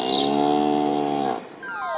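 A cow gives one sustained, steady-pitched moo lasting over a second, then it breaks off into a few thin, high tones sliding downward.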